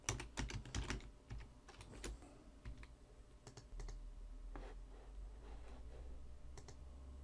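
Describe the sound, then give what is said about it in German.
Irregular bursts of typing code for a button click handler of an Xbox app on a computer keyboard, quick clusters of crisp key clicks with short pauses between, over a steady low hum; no one speaks. “Per Doppelklick aktiviere ich den Klickhändler und schreibe jetzt einfach mal ein wenig Code hier hin.”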